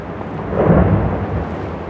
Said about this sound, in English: Great chunks of ice fell into the water, then raised up again like a broaching submarine to float as small icebergs. With each boom and crack, a bit more of Greenland's ice falls into the sea.